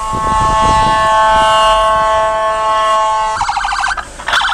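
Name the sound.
ambulance siren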